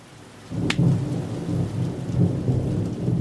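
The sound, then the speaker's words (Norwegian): Heavy rain driven by gusting wind roars after a brief quiet start, a dense, rumbling wash of sound that swells and surges without letup as the wind blows the rain straight into a bus shelter. No one speaks. “står helt inntil veggen I busskuret, men likevel blåser vinden regnet rett inn, og hun blir våt på beina.”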